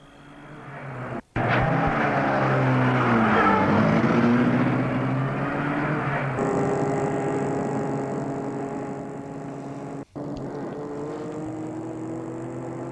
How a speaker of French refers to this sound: Il entre dans la voiture, chauffeur aussi, et il met la voiture en route.